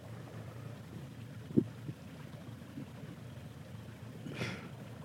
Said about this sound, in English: Doing a podcast on a boat. No, I think we look pretty cool.